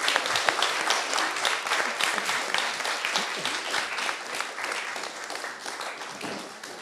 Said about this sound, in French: Ben voilà, je vous remercie beaucoup à vous, public, et puis surtout à vous, intervenants, pour cette soirée. Et je pense qu'on peut les applaudir très fort.